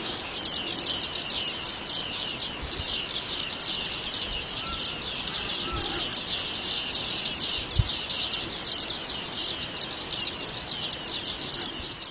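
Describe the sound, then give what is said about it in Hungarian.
Bearded reedlings give a continuous stream of high, ringing, bell-like pings, the call that gathers the flock, many birds calling over one another, with a soft outdoor hiss and no talking. “nagyon összetartók ezek a csapatok, őszi időszakban, amikor fogunk egy barkusz cinkét, és belemegy a hálóba, az gyakorlatilag ez a nagyon jellegzetes csilingelő, csengőszerű hangjával behívja az egész csapatot.”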